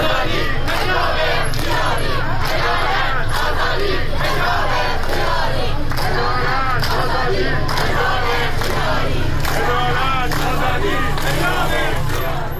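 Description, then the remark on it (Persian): A large protest crowd in Tehran, Iran, on a Monday evening, protesting the death of Mahsa (Jina) Amini in police custody, chants slogans against officials and police and demands an end to compulsory hijab, in loud, rhythmic unison, voices rising and falling in repeated shouted phrases over a steady low rumble, with no quiet gaps. “تظاهر کنندگان علاوه بر شعار علیه مقام‌های حکومتی و نیروهای انتظامی خواستار رفع اجباری حجاب شدند.”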